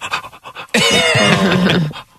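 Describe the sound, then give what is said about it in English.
A voice imitates a dog, starting with a few quick rhythmic panting breaths and then breaking into a loud, drawn-out whining howl that lasts about a second before stopping. “The dog's just like...”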